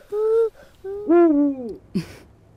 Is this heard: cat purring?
no